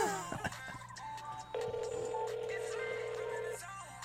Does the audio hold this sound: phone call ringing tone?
yes